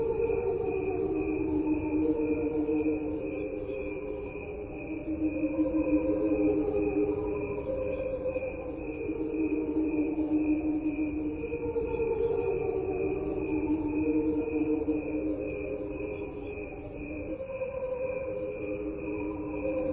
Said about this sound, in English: Okay, you know, this is crickets slowed down. There's nothing on here but crickets. There's real crickets, but there's also the angels underwater. There's no sounds on here that aren't crickets.